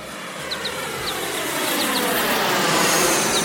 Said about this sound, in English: Wowee! There goes a big plane! I wonder where they're going.